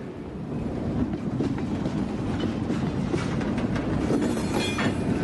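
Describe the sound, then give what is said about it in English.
A northbound train rolls steadily along the tracks, its low rumble constant, with rhythmic clicking of wheels over rail joints and faint metallic squeals. “Get on board if you want to ride this train.”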